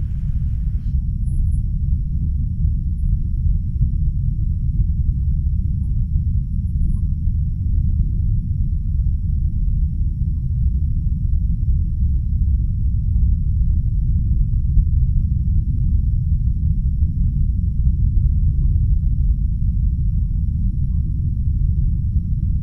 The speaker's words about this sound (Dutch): Het was een hele lange stilte. En ergens in het midden was een soort heel erg diep onweerachtig geluid. En dat was wel echt waanzinnig. Laten we even horen hoe dat dan klinkt. Midden in de aarde.